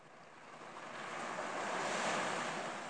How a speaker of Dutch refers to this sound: En om mee te gaan met de golven.